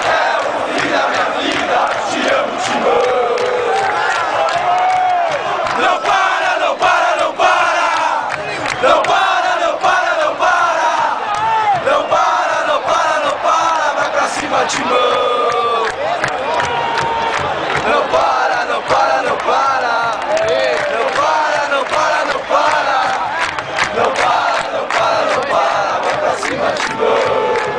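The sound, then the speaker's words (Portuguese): A large stadium crowd of Corinthians football supporters in Brazil chants in unison a 2008 cheer inspired by a song, loud and sustained with rhythmic swells and shouts, filling the whole stretch without pause. “Com isso, no ano de 2008, a torcida incentivou o time com um grito inspirado em uma música”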